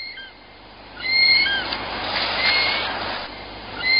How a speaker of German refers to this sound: Lasst uns nochmal den Kiwi hören.